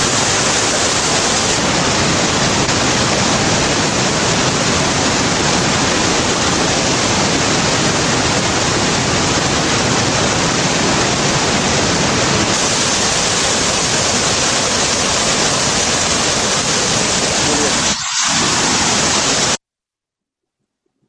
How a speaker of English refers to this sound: shall I show the river flow? I've got another little video. Do you want to see the flow of the River Jordan in peak season?